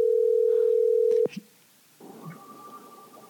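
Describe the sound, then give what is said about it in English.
A steady, loud telephone dial tone hums for about a second, cut off by a couple of sharp clicks as a call is placed, then faint ringing-line hiss and a soft tone follow. “We're going to try to get him on the phone.”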